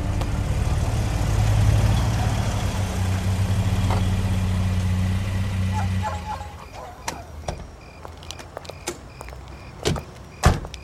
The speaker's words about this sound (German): Eine halbe Stunde später saßen sie in Bobs Wagen und fuhren durch die abendlichen Straßen von Carino Beach. Es dauerte eine Weile, bis sie die Laguna Street fanden.